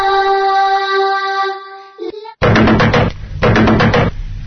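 A sustained ringing tone gives way to loud, rapid pounding on a door, two close bursts of heavy knocking with a short pause between them.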